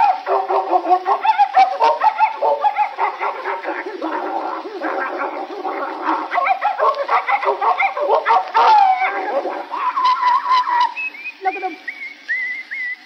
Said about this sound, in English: Look at him. My dog wins the fight.